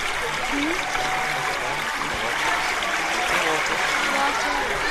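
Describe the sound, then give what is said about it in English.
A steady trickling stream of water babbles continuously, with a bright, dense splashing texture that stays fairly loud throughout, without any clear talking over it. “MashaAllah, that is the water.”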